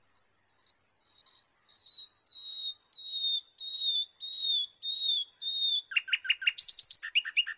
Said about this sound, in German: Allerdings kann es inzwischen auch passieren, dass man mitten in der Nacht diese Stimme hört. Wiedererkannt? Genau, die Lerche war es und nicht die Nachtigall.